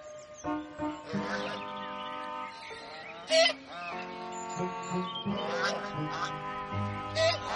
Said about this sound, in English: What are the geese doing on the lawn?